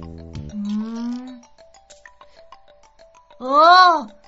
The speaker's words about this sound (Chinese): 奇怪。在这么值得开心的日子里，怎么会听到如此悲惨的哭声呢？